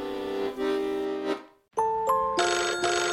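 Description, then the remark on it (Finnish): An electronic phone ringtone for an incoming call plays a bright, melodic pattern of tones, pausing briefly before a new, higher and brighter phrase begins. No voices. “Ja nyt soittaa Anne.”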